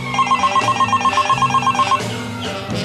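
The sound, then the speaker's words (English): A telephone bell rings in rapid, repeated pulses for about two seconds, loud, then cuts off, leaving a hum of background noise. No one speaks. “My phone had been ringing off the hook for what seemed like an hour.”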